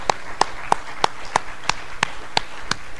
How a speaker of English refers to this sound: I'd like us to give him applause, although you have to clap really loud because he's way out there helping people. He's just coming in now. Let's give him a hand.